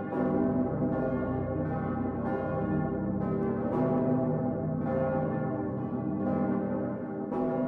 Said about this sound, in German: Fast überall auf der Welt haben Glocken eine religiöse Bedeutung. Besonders wichtig sind Glocken für die Christen. In jedem Kirchturm hängt mindestens eine Glocke.